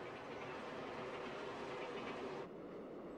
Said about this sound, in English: And Hackman goes to the next station, expecting that he's beaten the train to 25th Avenue, but the train blows right by the station.